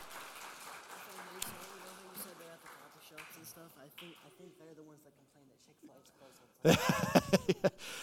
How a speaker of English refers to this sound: So thank you all to our volunteers. Give them a round of applause, okay? Wonderful work.